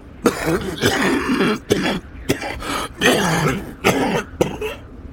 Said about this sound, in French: Ils arrivent à un campement abandonné par une expédition japonaise. Et là, … se met à tousser.